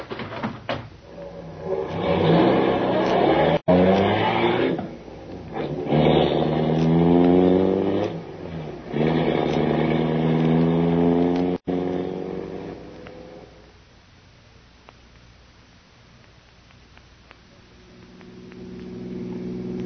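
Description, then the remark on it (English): Grogan's car engine roars, revving hard and accelerating through several rising surges while chasing another car, before dropping away to a low, steady hum. “Quick, get in Grogan's car. We're going after him.”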